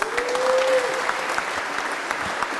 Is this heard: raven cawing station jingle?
no